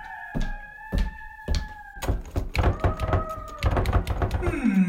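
A bolted door is yanked and rattled against its lock, with several heavy thuds at first, then a rapid burst of knocking rattles and creaks as it refuses to open.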